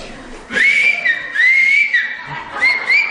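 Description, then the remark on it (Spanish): Loud Silbo Gomero whistled language: sustained, pitch-gliding whistles rise and fall in three phrases, with short breaks between, sounding like speech carried by whistling rather than a tune. “Esto es el silbo Gomero.”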